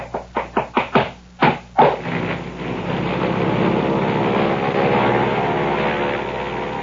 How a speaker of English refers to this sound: Mr. Sims took off in his airplane, and he's doing a few stunts. I might point out he seems to be pretty good at it, too. And there he goes into a famous Immelman, and out of sight.